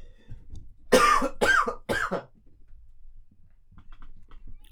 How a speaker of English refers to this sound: I'm so sorry, I'm about to cough.